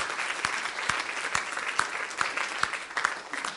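An audience claps their hands in steady applause as praise to the Lord for testimonies, a dense wash of many overlapping claps with some sharper individual hits standing out at regular intervals, moderately loud throughout.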